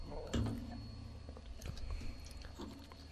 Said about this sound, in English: And just to be entirely ready, I'm going to cleanse my palate with some water.